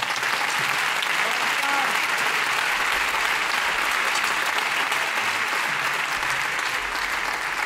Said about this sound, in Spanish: un fuerte aplauso.